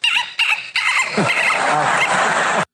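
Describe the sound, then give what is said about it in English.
A woman imitates a dolphin with loud, high-pitched squeaky chirps: two short bursts followed by a longer, rattling squeal that runs for nearly two seconds before cutting off. “That's me making my dolphin noise.”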